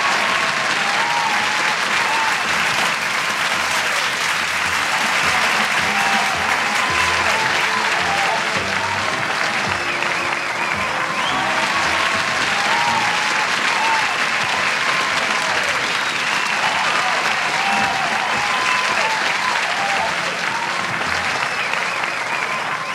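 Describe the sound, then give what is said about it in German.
A large audience claps steadily and loudly for over twenty seconds, a dense, continuous wash of applause with no talking over it. “Hier komt natuurlijk een mooi applaus voor u.”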